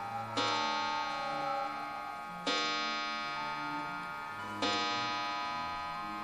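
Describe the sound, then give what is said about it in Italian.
An English pendulum clock strikes three bright, ringing chimes, evenly spaced about two seconds apart, each note sustaining with a rich metallic hum until the next stroke; no one speaks. “Mentre attraverso l'ingresso, sento la pendola inglese battere 5 rintocchi.”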